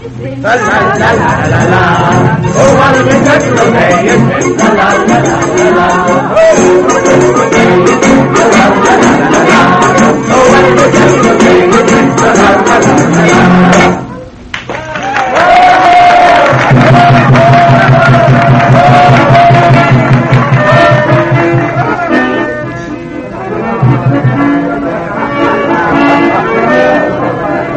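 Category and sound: crowd, crowd cheering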